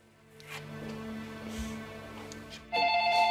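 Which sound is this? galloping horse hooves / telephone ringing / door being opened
telephone ringing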